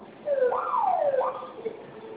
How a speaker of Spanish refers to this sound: Ok, vamos a presionar los que tienen forma de flamita durante 5 segundos al mismo tiempo. Esto va a activar su alarma. En cuanto suene su alarma, digite su clave.